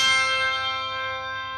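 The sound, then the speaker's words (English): A bright, clear handbell tone rings out and sustains with shimmering overtones, slowly decaying without a second strike, fairly loud with no voices. “Yep, the kind you hear around the holiday season.”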